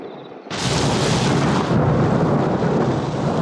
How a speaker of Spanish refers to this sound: Afuera ruge la tormenta y la lluvia cae incesante.